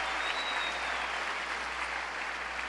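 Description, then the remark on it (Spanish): An audience applauds the Lord together in a steady, dense wash of clapping that holds at an even loudness throughout, with no voices standing out above it. “Yo le daría un aplauso al Señor.”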